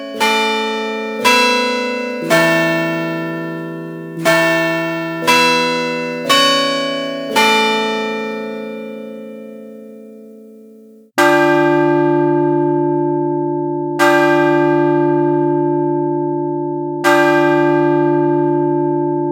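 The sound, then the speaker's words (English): Carillon bells from a Chime Master Carillon system ring a quick melodic chime of about eight notes, then a deep bell strikes the hour three times at slow, even intervals, each stroke ringing out long and loud. “If you wish to strike the clock, a variety of styles are programmable for any time periods you desire.”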